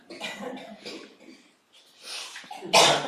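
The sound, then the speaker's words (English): A string of harsh, breathy coughs, several bursts spaced across a few seconds, ending with one loud cough after a brief pause. “I know that causes you to cough sometimes.”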